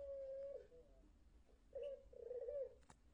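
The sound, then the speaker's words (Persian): A songbird kept at a workplace in Iran sings quietly in the early morning in three short, warbling phrases, the first longer and steadier, the last two close together, with no talking and only a faint background hum. “آواز این پرنده خوشخوان رو بشنویم”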